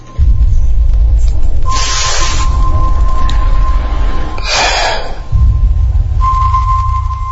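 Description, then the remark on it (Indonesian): Two harsh, raspy gasps, like a person choking for air, rise over a constant low mechanical rumble and a thin steady hum, with a pause between them. “Semakin jelas terdengar, semakin ku sadar suara itu memang bukan mesin air, tapi suara seperti orang tercekik.”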